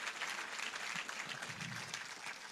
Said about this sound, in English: So Holy Hill, please clap for yourselves. Clap for yourselves.